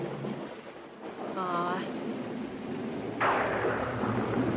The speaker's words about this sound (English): Aw, it's okay. It's just a little thunder. Don't be afraid.